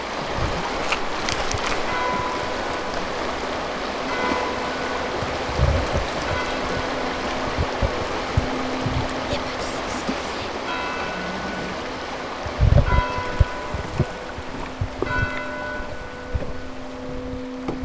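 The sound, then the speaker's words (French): Steady, dense rain hisses continuously with wind rushing beneath it, staying loud throughout, with faint tonal hints and a couple of low thumps near the end. No one speaks. “Et la pluie en même temps. Le vent.”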